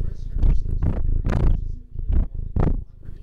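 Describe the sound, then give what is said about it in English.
A cat named Santiago purrs loudly while tucked under a person's arm in bed, a deep rumbling that swells and fades in steady rhythmic pulses with each breath, with no voices over it. “He's so comfy and purring.”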